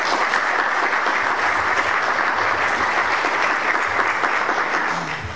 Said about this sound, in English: Finally, as you will see and hear more on the tour, they have moved forward with phase two of their facilities. We're very excited about that. That's worth a round of applause right there.